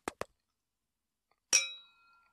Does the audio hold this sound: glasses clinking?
yes